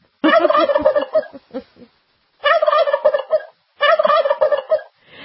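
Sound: turkey gobbling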